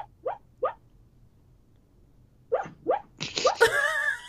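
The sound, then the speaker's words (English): A dog whimpers while dreaming in its sleep: three short, high yips, a quiet pause, then a run of squeaky whines ending in a longer, wavering whine. No one speaks. “My dog is dreaming.”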